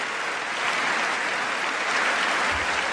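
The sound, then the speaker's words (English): An audience gives sustained applause welcoming Sweden, which officially joined NATO that morning, and its minister: a dense steady wash of many hands clapping at once, fairly loud and continuous throughout with no voices standing out. “Welcome, nothing welcome, but claps welcome.”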